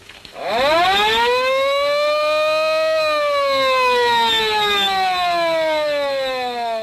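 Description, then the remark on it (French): The siren of Al Capone's vintage car, sounded by a simple touch of a control, winds up from a low growl into a loud, steady wail that holds and slowly sags in pitch, with no voices over it. “La sirène de cette voiture permettait à Capone de s'enfuir à tout moment”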